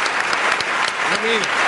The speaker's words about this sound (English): Listen to that applause. They love you.